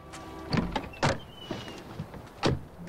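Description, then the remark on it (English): The doors of a Jaguar car open and shut with a few solid clunks spaced irregularly over a few seconds, moderately loud, with faint mechanical rattles between them and no talking. The car has pulled up outside a house in the dark, and people are getting out. “Turning off the lights, Max gets out and goes to the boot, ignoring Stella, who climbs out of the back seat.”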